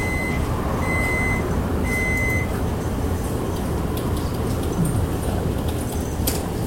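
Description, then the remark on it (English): A computer BIOS beep code: one short, high-pitched electronic beep followed by two longer beeps of the same tone, set against a steady, low rumbling noise. “I was learning about BIOS peep codes.”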